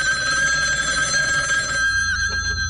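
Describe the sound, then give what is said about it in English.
A telephone rings with a steady, shrill electronic trill, sustained and fairly loud throughout, with no voices over it. “who is that on the phone?”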